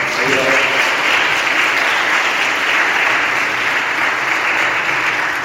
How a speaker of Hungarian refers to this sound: És lehet, hogy nem mindenki tudja, de most volt 90 éves, és hogy szeretném ezen helyen is felköszönteni, és egy tapsot kérni neki.